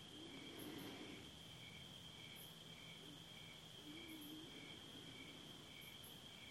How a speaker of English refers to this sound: Or if you want, you can think of it as surrounding you and then fending off everything else in the world. As soon as you start paying attention to the crickets, you know, oops, I'm slipped off to the world.